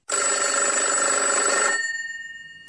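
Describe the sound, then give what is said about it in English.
A single loud telephone ring, a rapid metallic bell trill lasting about a second and a half, then dying away into a fading resonant hum, on an outgoing call placed by the radio program The Salad on Vaughan Radio to Dr. McKenzie. No one speaks. “We're phoning Dr.”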